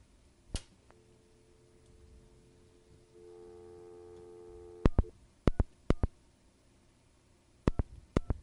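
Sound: telephone busy signal tone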